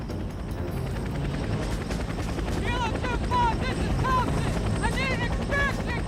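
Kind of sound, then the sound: vehicle, helicopter rotor noise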